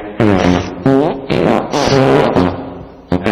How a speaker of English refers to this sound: Live fart sounds from Bark. From Bark.org.